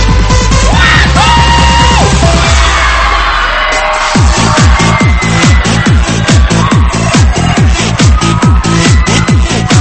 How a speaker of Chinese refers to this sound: 带上你的好朋友一起加入进来，来一点尖叫声鼓励一下。